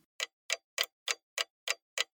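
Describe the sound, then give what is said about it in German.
An alarm clock ticks steadily, seven crisp, sharp clicks at an even, brisk pace, loud and prominent with silence between each tick and no voices. “Der Wecker tickt ganz laut.”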